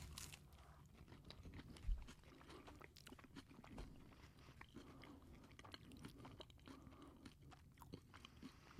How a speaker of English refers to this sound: I can totally hear you chewing. I know. All right. I'm chewing with my mouth open.